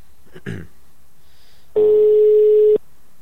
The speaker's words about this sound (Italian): Colleghiamoci. Allora, vediamo la musica. Ecco qua. Speriamo che risponda. Ma sentiamo squillare.